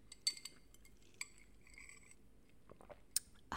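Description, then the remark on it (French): Someone sips an iced oat milk latte, with quiet slurping and a few sharp clinks of ice against the glass scattered through an otherwise hushed moment. “Je vais prendre une gorgée de mon ice latte au lait d'avoine.”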